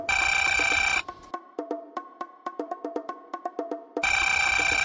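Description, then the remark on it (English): A telephone rings with a bright, buzzy electronic tone, opening and closing with sustained ringing bursts and a quick run of short, evenly spaced pulses in between. No one speaks. “For me, the story started with a phone call.”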